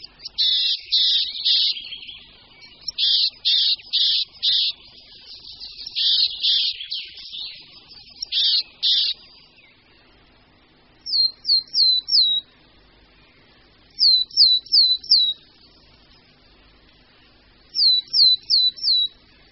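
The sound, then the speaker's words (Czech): Willow tit song: short sets of three or four high, thin, evenly pitched whistled notes repeated with pauses, following a run of dense, harsher high bursts of calling. No voices. “To byla síkora lužní.”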